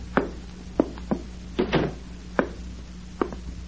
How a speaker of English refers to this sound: The next step, up the stairs, through the door, to prove my faith to Comrade Hastings.